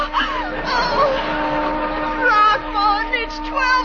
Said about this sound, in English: Listen, a whistle. Oh, it's the old tack factory.